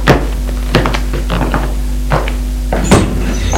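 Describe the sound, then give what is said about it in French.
A bedroom door being opened: a handful of sharp wooden clunks and latch knocks spaced irregularly over a few seconds, over a steady low electrical hum, with no voices. “Et il va ouvrir la porte de la chambre.”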